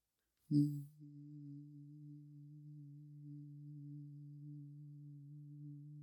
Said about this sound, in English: You hear a light humming in the back of your head.